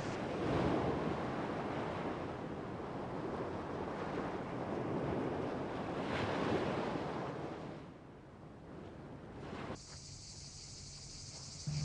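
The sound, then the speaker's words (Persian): A steady, rushing roar of surf washing onto a shore, loud and broad, easing off briefly before a thinner, hissing ambience takes over near the end. No voices are heard. “خیلی دوست دارم دریاتونو ببینم.”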